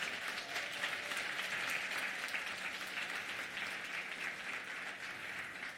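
A crowd applauds steadily for several seconds, a dense, even wash of clapping hands that holds a fairly constant loudness throughout, with no voices standing out.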